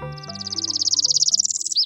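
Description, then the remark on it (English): A northern parula, a tiny North American warbler, sings a single rising, buzzy trill of rapid notes that climbs steadily and ends in an abrupt snapping note, clear over faint low tones. “The northern Perula is a tiny bird with a big personality.”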